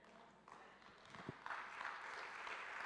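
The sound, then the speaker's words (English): Soft, scattered applause from a modest crowd, a light golf-clap patter that builds slightly and continues steadily in the room, with no one speaking. “Thank you for that golf clap.”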